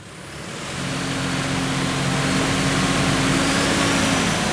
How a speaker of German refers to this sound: Der Traktor auf den Prüfstand kommt tüchtig auf Touren. Während der Motor der Maschine hochdreht, messen die Experten am Technologie- und Förderzentrum Straubing Kraftstoffverbrauch, Stickoxide und Feinstaub, den die wuchtige Landmaschine